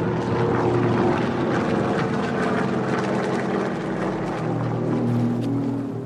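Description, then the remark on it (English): A steady, low droning of Japanese propeller warplanes over Guangdong Province, near China's southern coast, fills the air, sustained and fairly loud throughout, with layered harmonic hum and no voices. “the people of Guangdong Province in China, near the southern coast, noticed a low droning sound in the air.”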